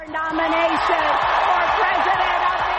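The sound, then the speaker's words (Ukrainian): A large audience at the Democratic National Convention in Philadelphia applauds as Hillary Clinton accepts the nomination for US president, a steady, dense roar of clapping mixed with crowd noise and a few whoops, while her voice talks underneath throughout. “Під оплески аудиторії заявила Клінтон.”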